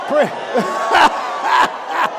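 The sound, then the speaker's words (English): A crowd of voices shouts and yells in loud, overlapping bursts, rising about every half second over a steady roar of many people. “Y'all ain't shouting no.”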